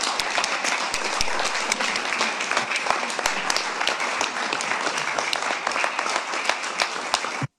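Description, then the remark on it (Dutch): Sustained applause from a sizable audience welcoming a newly introduced woman speaker, dense overlapping claps at steady loudness for several seconds before cutting off abruptly. “En laten we haar welkom heten met een applaus.”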